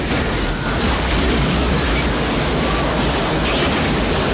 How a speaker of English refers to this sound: Watching them head towards the van, he steps towards the Undersecretary's black limousine. Without warning, the van is blown apart by an almighty explosion.